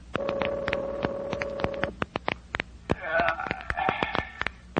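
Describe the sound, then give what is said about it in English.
A telephone rings in two fairly loud bursts, the first steady and buzzing, the second more warbling, with sharp clicks and crackles scattered throughout. “Come on, Gunnigan, answer the phone. Is everybody asleep?”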